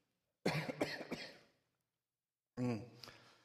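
A preacher coughs and clears his throat twice during a sermon: a rough burst of hacking coughs, a pause of silence, then another harsh throat-clearing cough.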